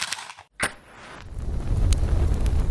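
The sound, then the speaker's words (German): A sharp strike like a match, then a campfire being lit catches with a low, rushing roar that builds and holds, scattered with small crackles and pops, without any talking. “Ich mache noch schnell das Lagerfeuer an und dann legen wir los.”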